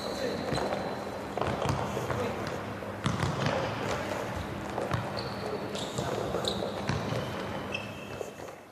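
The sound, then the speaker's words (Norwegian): A ball bounces repeatedly on a hard floor in an uneven rhythm of sharp thuds, with high squeaks and faint voices in the background. “Men fader da, hva slags ball er det som dere spretter så mye, for den er jo i bakken hele tiden.”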